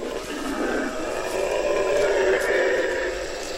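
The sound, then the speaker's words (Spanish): A disturbed group of howler monkeys roars in a continuous, deep, droning chorus, a loud rumbling wall of sound that swells slightly and holds steady without pause. These calls carry for many kilometres and are used to defend territory. “Ha molestado a un grupo de monos aulladores. Sus llamadas se oyen a muchos kilómetros de distancia.”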